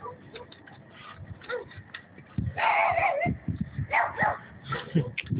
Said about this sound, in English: The dog is usually outside going crazy. In the evenings, he's inside.